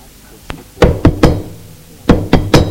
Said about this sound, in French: On a frappé à la porte.